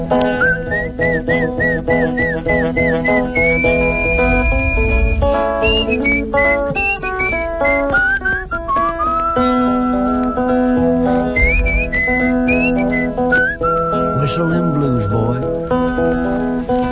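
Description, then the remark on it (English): A man whistles loudly to call a horse, a continuous run of short chirping notes and long sliding tones that rise and fall for several seconds. “I said, I whistles to her.”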